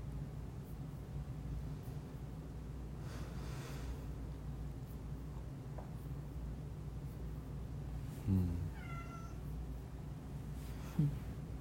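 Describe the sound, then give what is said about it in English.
A female cat lets out one short meow, followed moments later by a faint, brief second call, both over a steady low droning hum. “And that's why her meows sound a little funny to me, because it seems like it should, like, be a big roar.”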